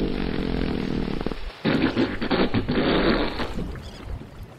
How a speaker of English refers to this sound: Do humpback whales communicate by farting? Yes, one will fart and another will fart back. Listen.